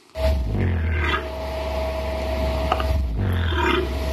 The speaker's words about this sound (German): aber auch bei Laufvögeln zum Beispiel, wie dem Kasuar, der klingt ungefähr so.